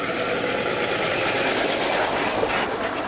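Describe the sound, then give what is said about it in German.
A heavy truck carrying sand rumbles loudly, a steady deep engine drone with broad road noise that holds throughout without pause. No voices can be heard. “Ja, ein LKW, wo auch immer der hin will. Mit Sand.”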